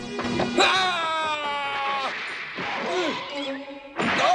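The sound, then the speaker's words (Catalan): Dogs snarl and yelp in a loud scuffle as Yamcha and Goku keep fighting against more dogs, with drawn-out whining cries and sharp bursts of noise layered over a busy fight. “En Yamcha i en Goku continuen lluitant contra més gossos.”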